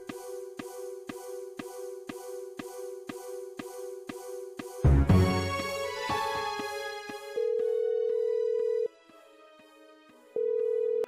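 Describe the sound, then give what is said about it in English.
An electronic telephone tone rings in a fast, steady pulsing rhythm for several seconds before the phone is answered, then gives way to a sudden burst of musical notes and two long, loud sustained beeps. No one speaks. “Is that really how you answer the phone?”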